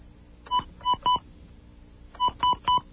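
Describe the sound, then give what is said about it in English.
Touch-tone beeps of a phone number being dialed: three short tones, a brief pause, then three more, each a steady dual-pitched beep over a faint line hiss, with no voices. “we have dialed the number, and the number soon will be ringing”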